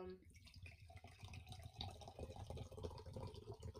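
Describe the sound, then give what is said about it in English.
Liquid Death canned water pours steadily from a can into a glass, a continuous splashing, gurgling stream lasting several seconds with a slightly bubbly, uneven rhythm. “Nice long pour of the Liquid Death.”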